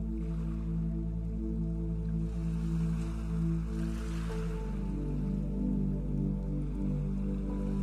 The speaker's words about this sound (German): Nimm das Rauschen der Wellen wahr. Wie eine nach der anderen an das Ufer rollt.